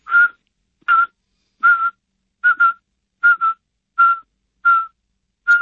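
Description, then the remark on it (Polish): A person whistles an imitation of the Eurasian pygmy owl's call that attracts and signals an occupied territory or presence: a steady series of short, clear, mid-pitched toots about one every 0.75 seconds, some doubled, fairly loud with silence between. “To jest taki mocno komputerowy głos, to jest takie gwizdanie.”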